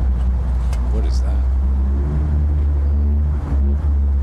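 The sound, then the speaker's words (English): A loud sports car engine roars outside in Park X, a deep continuous rumble with shifting pitch as it pulls away, while a person briefly speaks over the noise; recorded with a phone. “It was like some car driving off or something.”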